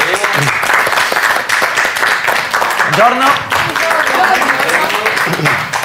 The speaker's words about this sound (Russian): И, кстати, сегодня у нас еще один гость, работа которого заключается в том, чтобы делать людей красивыми. Попрошу поприветствовать его аплодисментами.